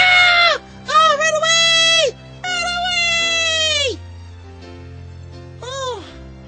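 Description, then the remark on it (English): A series of four loud cat meows, drawn out and wavering, with the last one shorter and softer after a brief pause, over a low steady background hum. “Ooh, you're gonna get it now, little kitty! Don't hurt the kitty! Meow, meow, meow, meow, meow, meow.”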